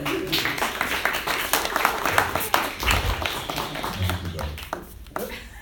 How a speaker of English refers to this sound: So come on up. You can clap.